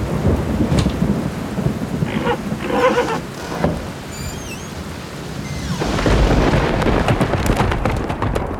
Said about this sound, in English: The horses were right. There was a storm. It was blowing all night.